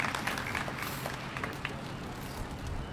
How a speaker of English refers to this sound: This worship team, you just give them a big hand clap. Honor where honor is due.